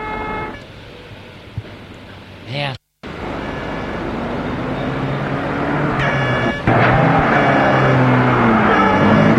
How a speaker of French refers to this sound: Mis dans une voiture de police, deux hommes sont mis entre lui. La voiture se met en route.